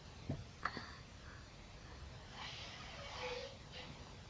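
A person blows their nose somewhere in the background, a faint, muffled honking rush of air lasting about a second, preceded by a few soft clicks and breathy sounds.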